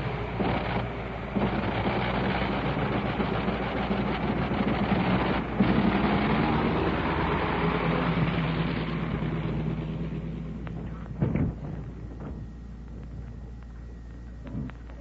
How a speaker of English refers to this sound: And there he taxis away. Did you hear the sound of that plane going off? That was the famous Liberty engine, 425 horses, and this version, the one that you heard, was in and installed in a DH-4 U.S. mail plane that did not see service in World War I.